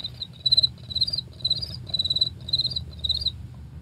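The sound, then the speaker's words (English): A voice imitates a cricket with six bright, high-pitched trilling chirps in a steady, evenly spaced rhythm, clear over a faint low background rumble. “What about a cricket? Can you do a cricket?”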